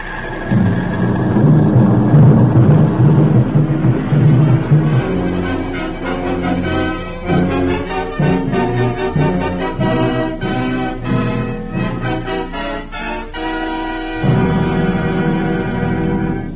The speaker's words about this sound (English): Japanese planes are bombing Pearl Harbor. What? Listen. You can hear the bombs exploding.